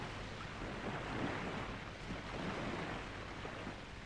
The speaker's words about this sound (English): Inhale, hear nothing but the ocean waves, see nothing. Exhale.